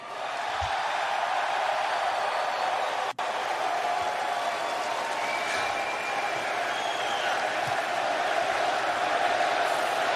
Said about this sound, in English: Oh, they're chanting Fuego. The crowd is hot. Fuego.